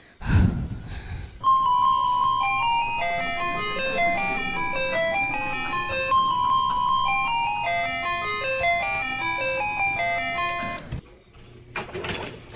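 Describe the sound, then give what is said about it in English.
A musical doorbell chime plays a long, tinkling tune of many bright, evenly paced notes for about ten seconds, fairly loud, with a faint low rumble before it starts. “Ring the doorbell.”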